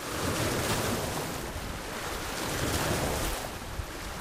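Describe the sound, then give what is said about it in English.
Steady surf rolls and crashes against an otherwise silent shoreline in South Vallejo, below a windswept bluff, a broad continuous wash of water mixed with gusting wind noise, loud with no voices. “Waves crash against an otherwise silent shoreline in South Vallejo.”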